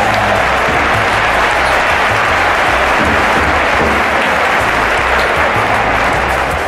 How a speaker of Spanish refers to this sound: ¡Aplausito para todos! ¡Muy bien!